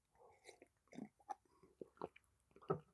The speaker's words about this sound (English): I'll have a sip of coffee if you don't mind.